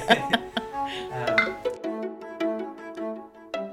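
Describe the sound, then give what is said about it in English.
Beer glasses clink together in a toast, a cluster of bright knocks followed by clear ringing tones that fade slowly, with a few lighter taps and faint background noise early on. “You need a cold beer, don't you, on a day like this? I might finish my Kirk first before I... Cheers, anyway.”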